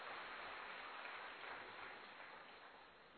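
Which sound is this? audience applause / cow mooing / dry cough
audience applause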